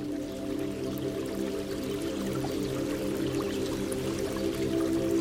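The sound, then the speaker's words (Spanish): A small stream in a forest flows steadily, with a continuous bubbling, trickling rush that holds an even level throughout. Faint droplet-like splashes flicker on top, and no voices are present. “Que tal vez habría que fluir igual que lo hace el agua de aquel riachuelo.”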